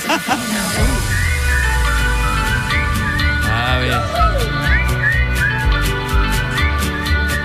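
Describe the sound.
Upbeat pop music plays steadily with a thumping bass, crisp regular percussion and a bright, whistle-like melody gliding over it; a voice briefly speaks near the start.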